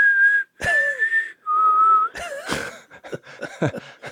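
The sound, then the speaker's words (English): A person whistles a western-style movie theme tune, a few long sustained notes with sliding pitch, followed by breathier, choppy mouth sounds near the end. “for the little one that we get to keep, you know, I'll do my little dove call, that little, and then I'll whistle.”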